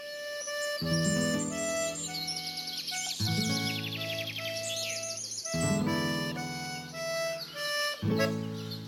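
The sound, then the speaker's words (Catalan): Bright chirps and warbling trills of birdsong in a forest flutter over a sustained musical backdrop of held tones that changes chords every few seconds, with no talking. “I va escoltar el cant d'uns ocells que no havia sentit mai.”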